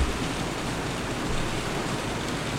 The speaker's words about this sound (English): As yet again, this cleansing rain just pours down. I love it. The Wednesday evening thunderstorm.